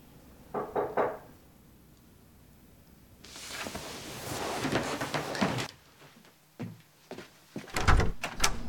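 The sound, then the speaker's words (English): A house's front door is opened: a quick latch rattle, a longer scraping swing, then a couple of heavy thumps near the end, moderately loud, with no one speaking. “opening the front door, catches sight of Juno driving off”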